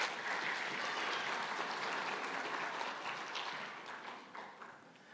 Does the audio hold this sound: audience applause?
yes